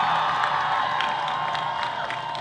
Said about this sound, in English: This is their place. Let's give it up for them. I want to hear a big round of applause for our Coast Salish tribes.